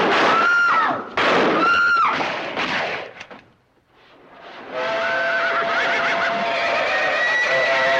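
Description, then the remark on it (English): Loud horse whinnies ring out in two shrill bursts, then fade into a brief lull before a steady, noisy rush with droning tones takes over; horses rear up at the trackside as the St. Louis Midland train pulls into a station. “Horses rear up and men cheer in the pandemonium.”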